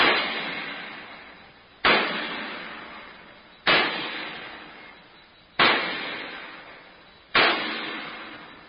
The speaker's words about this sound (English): The bolts, the wing bolts, they hold the door shut. They have to be tightened by hammering with the sledge. Cover your ears, sir.